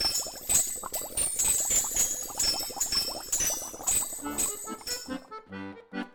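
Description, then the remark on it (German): Small bells decorating a small pot of water boiling on a fire in a hut jingle and rattle continuously in a busy, shimmering clatter with bright high ringing tones, thinning near the end into a few lighter tinkles before fading. “Und am Abend erklangen die Schellen, sobald das Wasser im Topf kochte.”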